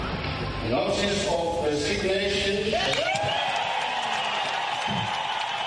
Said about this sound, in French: Cris de joie et applaudissements au Parlement zimbabwéen, les députés n'ont certainement pas caché leurs sentiments à l'annonce en surprise de la démission de Robert Mugabe ce mardi, annonce faite par le président de l'Assemblée Jacob Mudenda.